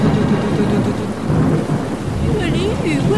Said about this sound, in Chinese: 哎呦，下雨好大，这样可以试试看。